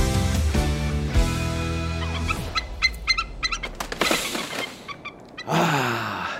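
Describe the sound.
A loud, piercing eagle call rings out above Ben Nevis, Britain's tallest mountain, then its sharp echoes bounce back several times, fading, before another shrill cry rises at the end.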